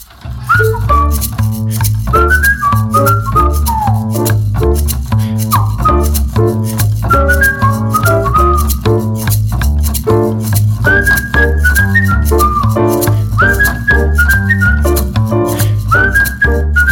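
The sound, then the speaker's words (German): Someone whistles a lively, hopping melody while walking down into a subway station, with quick rising and falling phrases repeated over a steady, thumping rhythmic accompaniment that continues throughout. “Ich ging hinunter zur U-Bahn und pfiff ein Liedchen.”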